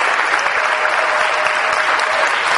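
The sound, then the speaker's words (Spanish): Steady, loud applause from an audience, a dense wash of many hands clapping with no breaks, sustained evenly throughout. “Ese aplauso que es para la gloria de Dios, claro que si es para la gloria de Dios, está muy tímido ese aplauso.”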